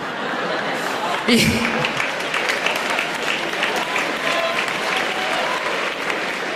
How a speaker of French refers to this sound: Vous applaudissez ça, bande de racistes.